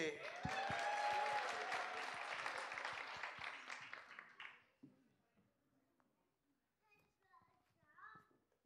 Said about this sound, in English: In third place, drum roll please, Canada! Normally you would get a bronze medal, but we don't have any bronze medals, so all you have is a round of applause.